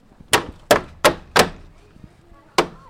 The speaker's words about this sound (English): swings open the wooden doors of a city-owned shed in Fairmount Park.